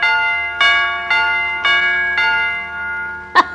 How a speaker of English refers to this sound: There's little hammers up here. Two of them. When the electric zizzes hits the whatchamadingus coil, the little hammer's supposed to smack the chime pipe.